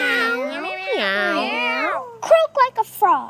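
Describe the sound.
A person imitates a cat with a long, wavering, drawn-out meow, followed by a few short clipped vocal bursts, clear.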